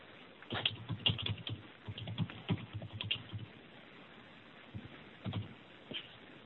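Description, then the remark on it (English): Rapid clatter of keys on a computer keyboard, bursts of quick clicking with brief pauses between them, fairly quiet, with no voices. “I'm typing the first one.”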